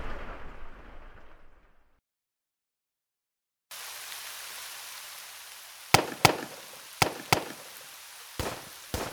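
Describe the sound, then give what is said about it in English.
Six sharp pistol shots crack out in irregular pairs over a steady hiss, after a muffled rumble that cuts to brief silence, coming from the road below the barracks at Camp Holmes in 1942. No one speaks. “those aren't pings. That's pistol fire.”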